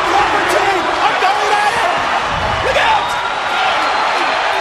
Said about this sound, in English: Oh, this was awesome. That pop is the number one pop. That glass breaking.